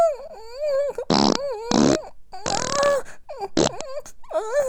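Several loud, raspy farting bursts after defecating, each lasting under half a second, break up a run of high, wavering whimpering or moaning from a voice. No words are spoken.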